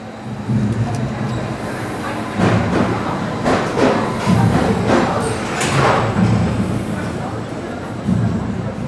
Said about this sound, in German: Wie du siehst, hier haben wir auch heute nur einen Zug.